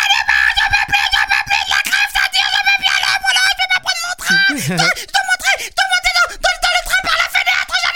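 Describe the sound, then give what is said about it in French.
A voice imitates a woman who is fed up with the strike, screaming in exasperation: a loud, high-pitched, frantic wail that runs on for several seconds with a wobbling, swooping cry partway through. “Je dis, mon bébé, il faut pas crier comme ça.”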